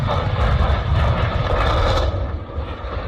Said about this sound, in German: Eine Boeing 737 der südkoreanischen Fluggesellschaft Jeju Air schießt im Tiefflug über die Landebahn. Das Fahrwerk eingeklappt, der Bauch der Maschine kratzt über den Boden, Funken fliegen, dann ein dumpfer Knall.